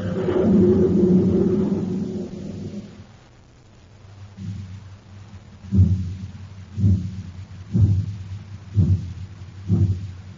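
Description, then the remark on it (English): A heavy engine rumble gives way to slow, labored chuffs, about one per second, over a steady low drone: the Terra City Express train straining to get up speed on ordinary fuel. No voices. “That's the Terra City Express train. It's trying to get up speed on ordinary fuel.”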